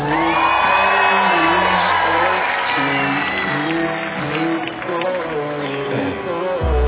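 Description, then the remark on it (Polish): A large concert crowd in Kraków cheers loudly and continuously, with whoops and shouts rising over a dense roar that stays strong throughout. “Panie i panowie, zróbcie przeogromny hałas.”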